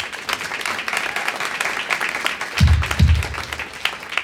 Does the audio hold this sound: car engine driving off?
no